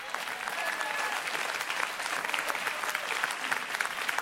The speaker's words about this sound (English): Look at your clapping.